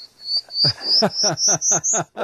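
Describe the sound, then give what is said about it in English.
A recording of a prairie warbler's thin, buzzy song, its high notes climbing steadily in pitch, plays over a regular series of about seven loud, low croaking pulses. “Let's give her another prairie warbler here.”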